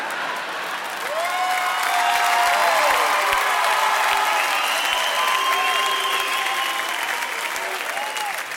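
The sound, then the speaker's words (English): A crowd boos loudly and steadily for several seconds, sustained groaning voices swelling and falling over a dense wash of clapping and crowd noise, with no one speaking. “Booing it doesn't make it less true.”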